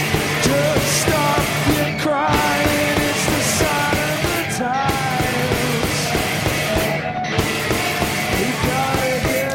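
A rock band plays a cover of a pop song at full volume, with a singing voice over dense guitars and steadily pounding drums that fill the whole stretch without a break.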